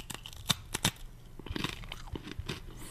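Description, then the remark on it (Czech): Crunching of a hard hazelnut biscuit with whole hazelnuts inside being chewed, with sharp bright cracks early on followed by steady, irregular chewing crunches, quiet, with no talking. “Hezky to chroupe. A moc to chutná.”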